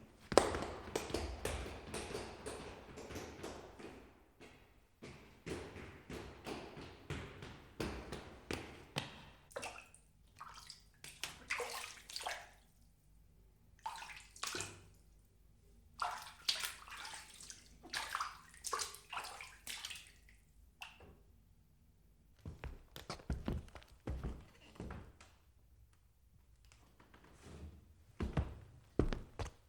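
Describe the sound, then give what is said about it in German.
Footsteps crunch, splash and thud across changing surfaces such as wooden and stone floors, iron stairs, gravel paths, icy snow, deep mud, shallow water and cobblestones, some wet and sloshing, others hard and sharp, in an uneven walking rhythm with brief pauses and no voices. “Füße betraten Holzböden und Steinböden. Sie gingen über Eisentreppen und Kieswege.”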